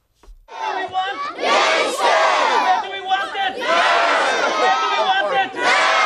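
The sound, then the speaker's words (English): A large crowd of community protesters in Milford, County Donegal, shouts in unison for a new building for Scullwira primary school, loud overlapping voices rising and falling in repeated bursts of chanting over about six seconds. “The community in Milford, County Donegal, held a protest yesterday to highlight their case for a new school building.”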